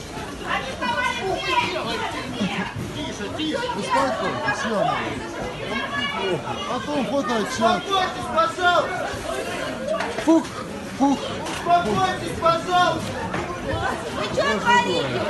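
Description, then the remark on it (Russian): A crowd runs through a Magnit store in Krasnodar, its many voices blending into a constant, loud roar of overlapping shouts and chatter that stays steady for the whole stretch. “Это толпа бежит.”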